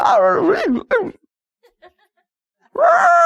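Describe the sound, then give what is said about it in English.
A person imitates a Tarzan jungle yell, a loud warbling cry whose pitch swoops up and down for about a second, then a brief quiet before another strong vocal outburst begins. “He gave his Tarzan yell, and here came the elephants or whatever to help him.”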